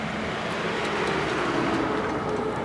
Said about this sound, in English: Trucks loaded with garbage, plastic bottles, tires, syringes, clothes, rumble past, headed for the sea.